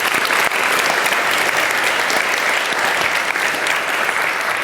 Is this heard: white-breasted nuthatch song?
no